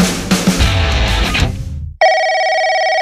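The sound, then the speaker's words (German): Loud, busy music cuts off abruptly, and a telephone, a home landline or mobile phone, starts ringing with a steady, bright electronic tone that sounds alone and unbroken through the final second. “Zu Hause auf dem Festnetz oder unterwegs am Handy. In diesen Tagen werden wieder zufällig Radiohörer angerufen.”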